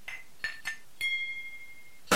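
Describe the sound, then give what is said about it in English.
A glass is pinged four times, each strike giving a bright ringing tone; the last one rings out for about a second. A sharp, noisy burst cuts in right at the end. “Sound is pinging a glass.”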